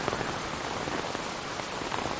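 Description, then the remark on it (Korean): Steady rain patters densely on an umbrella in a dark forest, a continuous crackle of countless small drops with no voices, fairly quiet and unbroken throughout. “시간이 지나도 어둠이 낯설었고 우산 위로 떨어지는 빗방울은 숲의 귀신들이 던지는 돌멩이 같았다.”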